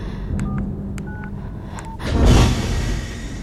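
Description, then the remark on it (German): A quick sequence of short electronic beeps from the code keypad of a secured door, several distinct tones of differing pitch forming a little melody, followed by a swelling low rumble of machinery or traffic. “Die Tür ist gesichert. Wartet, ich habe mir die Melodie vom Code gemerkt.”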